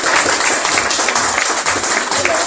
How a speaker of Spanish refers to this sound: un aplauso fuerte para nuestro profesor de Belly Play.